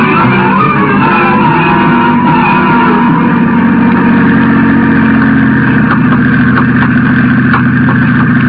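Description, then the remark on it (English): A car engine idles with a steady low rumble, then the car drives out onto Santa Monica Pier in fog, the engine note shifting slightly as it moves, fairly loud throughout with no voices. “You can drive cars out to the end of it.”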